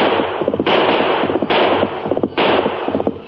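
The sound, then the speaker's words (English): Three loud, sharp gunshots crack at roughly even intervals over a dense, continuous rumble of noise, each one a sudden burst that quickly falls back; an outlaw, the Hawk, turns on horseback and fires at his pursuers. “Then the Hawk turned and fired.”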